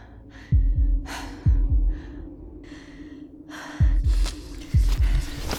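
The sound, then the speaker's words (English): Rapid, ragged gasps and heavy panting breaths come in uneven bursts, with deep thumping double beats like a pounding heartbeat underneath. No one speaks. “I'm fine, I'm fine. Breathing is good. Let's just focus on that.”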